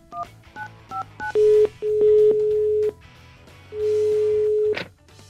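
A quick series of short two-pitch telephone keypad beeps, about five presses, followed by longer steady tones like a ringing line, clear with no talking; a call being placed to the Instituto Milford.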